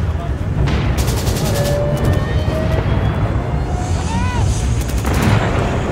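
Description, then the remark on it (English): Rapid bursts of gunfire crackle in two quick volleys over a heavy, continuous low rumble, with scattered single shots and faint shouting voices in between, as covering fire is given during an advance on an ISIS village. “Sure, we'll probably fire some rounds in that direction. Just give us covering fire.”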